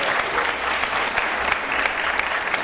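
A crowd claps steadily and continuously, a dense wash of overlapping handclaps with no pauses, fairly loud and close, lasting a few seconds.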